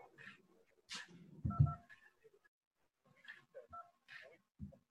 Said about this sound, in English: Okay, I apologize. All right, we were testing our voice automated notification system, and that's why my cell phone was ringing.